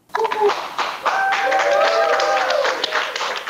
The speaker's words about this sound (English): In the last hour, the first coronavirus vaccine administered in the United States was given to a critical care nurse in New York City. Applause broke out as the event was webcast.